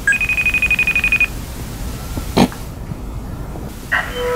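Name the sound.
phone call ringing out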